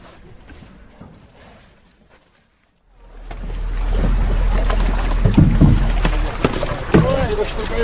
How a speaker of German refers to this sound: Gummistiefel knirschen im Schlamm und 10 starke Männer stemmen sich wie beim Tauziehen mit aller Kraft gegen 50 Tonnen Karpfen. Boote und Netz nähern sich allmählich dem Ufer.